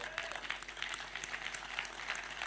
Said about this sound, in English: If you want to clap, clap.